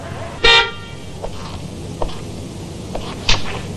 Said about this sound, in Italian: Lei ha clacsonato. Tu ha clacsonato? Io no. Ah, sì, ho appoggiato appena il gomito. È un clacson sensibilissimo.